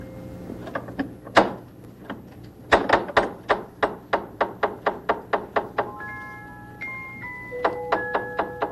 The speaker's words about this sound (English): Somebody's knocking. Well, who could it be? Somebody's knocking.